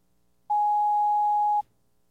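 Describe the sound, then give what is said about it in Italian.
A telephone rings once: a single steady electronic beep, loud and clear, lasting about a second before cutting off into silence. “Il telefono suonò.”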